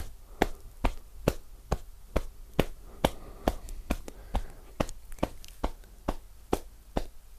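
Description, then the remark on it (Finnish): Steady, soft rhythmic tapping of a person's own hand on their upper back at the shoulder blade, about three pats per second, each a short muffled slap, continuing evenly with no talking. “Ja sitten vaihdetaan puolta ja aloitetaan taas yläselän lapaluun taputtelusta.”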